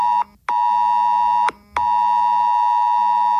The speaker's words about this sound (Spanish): Es lo que suena en nuestros teléfonos móviles cuando Protección Civil quiere avisarnos de una situación de riesgo. Reconocerla es fundamental, pero hay más.